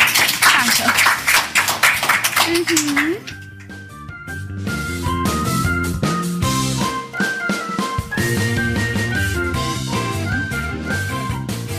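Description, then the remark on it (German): A few seconds of lively clapping from a small group, applauding the guests who had just been at the microphone, fairly loud with a voice mixed in, then it stops and a melodic music jingle takes over. “Vielen, vielen Dank, dass ihr am Mikro wart und nochmal einen Applaus für euch.”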